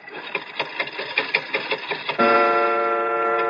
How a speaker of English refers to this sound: But look at the clock. I open the glass face like this. I push the hand forward like this, and...